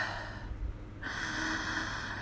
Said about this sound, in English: go on, turn the volume up. I want you to hear every bit of my intonation. Listen to me breathe.